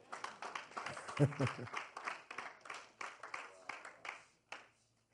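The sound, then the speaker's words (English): An audience claps and applauds for the Lord Jesus in a dense, irregular patter of sharp slaps that thins out toward the end, with a few raised voices briefly mixed in near the middle. “Clap for the Lord Jesus.”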